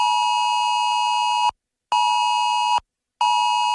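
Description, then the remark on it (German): A loud, piercing electronic alert tone sounds in three long blasts separated by short silences, the harsh buzzing emergency alert signal sounding from many mobile phones during Germany's nationwide warning day test in the morning around 11 o'clock, with no voices. “So klingt's dann am Vormittag wieder von vielen Handys.”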